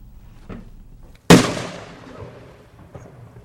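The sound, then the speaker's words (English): A single loud firework bang bursts out abruptly, then rumbles and fades over a couple of seconds against a quiet background, with no voices present. “Just like it does every time this year, the government is warning you about the dangers of fireworks.”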